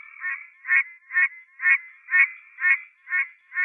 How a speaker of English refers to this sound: At the website of the Center for Biological Diversity, you can download the sounds of the rare Pine Barrens tree frog.